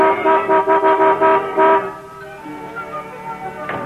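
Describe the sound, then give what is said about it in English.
The horn of a new car honks in a quick series of short, loud toots for about two seconds, then fades to quieter street noise with a faint final beep. “It's a few minutes late, honey, but that's what I was talking about, your new car.”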